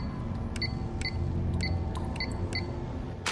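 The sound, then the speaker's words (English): A series of short electronic beeps as numbers are pressed on a door lock's keypad, about seven quick high-pitched tones in an uneven rhythm, heard over a steady low hum with no voices. “She presses the numbers on the keypad.”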